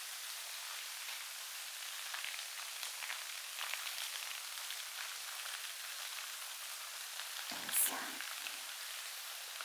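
A waterfall rushes in a steady, bright hiss of falling water that holds the same level throughout, with a brief louder splash or bump near the end and no voices.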